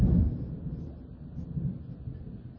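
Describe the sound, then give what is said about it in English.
A deep roll of thunder, loudest at the very start and then rumbling on more softly with uneven swells, heard on its own with no voices. “I've always said, lightning, you don't have to be scared of the thunder.”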